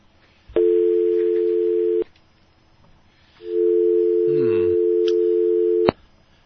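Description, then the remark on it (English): A steady, loud telephone dial tone hums on an open call-in phone line with no caller on it, sounding for about a second and a half, cutting out, then returning for several more seconds before clicking off. “we'll have to go now to our phone and see who's calling in”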